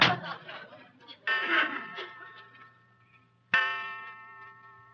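A clock strikes twelve o'clock in slow, resonant strokes, each ringing out with a long humming decay before the next one lands; three strikes come through clearly.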